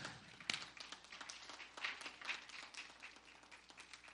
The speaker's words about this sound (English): But in particular, she left the room, but I want to thank Carrie for your service to this church and to God each and every Sunday. Let's clap.